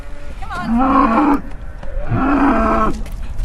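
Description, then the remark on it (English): Two long, loud moos from special needs dairy cows in a paddock at a dairy, one after the other, each a drawn-out bellow with a rising start, over a low outdoor background. “with some of her cows there, looking after those special needs cows before Vince arrives at the dairy”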